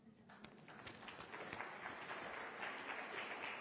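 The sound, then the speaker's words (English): A church group audience applauds itself steadily, dense overlapping claps building slightly and holding at an even level throughout, sounding like a mid-sized audience in a room, with no voices standing out. “Why don't you give yourselves a round of applause?”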